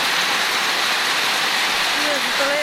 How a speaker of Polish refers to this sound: To pada coraz mocniej, ale może zaraz przystanie.